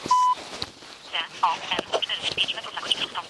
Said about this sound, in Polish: O właśnie. Już mamy sygnał. Mamy sygnał GPS. Mam nadzieję, że zrozumiecie te komunikaty.